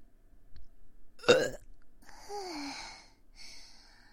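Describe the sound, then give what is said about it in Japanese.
A short, sharp burp, followed a moment later by a longer, drawn-out belch that drops in pitch, with no talking around them. “私もなんかゲップで気持ちよくなってきました。もっともっとね、大きいゲップ出したいな。”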